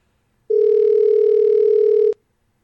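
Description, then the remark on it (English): A single steady electronic telephone tone, like a call ringing on the line, sounds clearly for about a second and a half, then cuts off with a click. No one speaks. “So, let's get them on the phone and see what they think of all that. Well, if they pick up the phone now, that is.”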